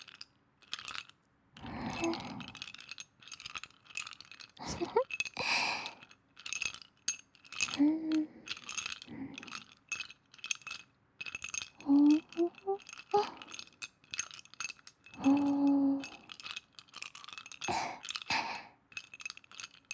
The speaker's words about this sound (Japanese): 私、あと氷の音だとね